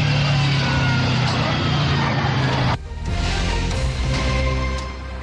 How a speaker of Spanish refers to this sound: Ahí ustedes escuchaban la homocinética del vehículo a máxima revolución por minuto, el motor más que todo, para tratar de escapar.